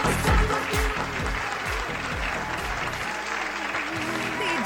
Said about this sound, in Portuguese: Vamos mandar uma salva de palmas pro pessoal que tá curtindo nós agora, hein.